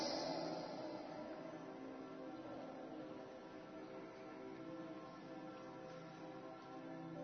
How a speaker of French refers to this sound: Prenons quelques secondes pour entendre ces cloches qui nous le rappellent aujourd'hui dans toutes les églises de France.